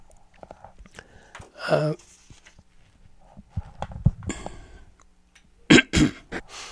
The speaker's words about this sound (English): I almost forgot how to push the mute when I had to cough, but I still can remember that.